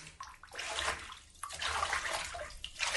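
Cold water pours steadily into a bathtub to cool a bath that was too hot, a broad hissing rush with gurgling splashes that swells and dips slightly but never stops, with no voices over it.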